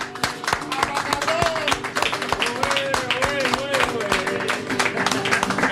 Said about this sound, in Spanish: Vamos a dar un aplauso y muy fuerte